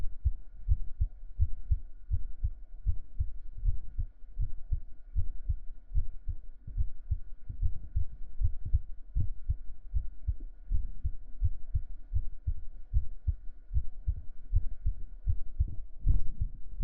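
fast heartbeat

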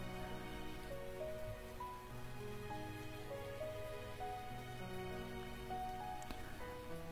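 rain falling

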